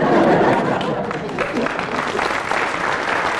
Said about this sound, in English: Everybody so far has got a round of applause, except for Graham Garden, which puts him ahead, and we go to you.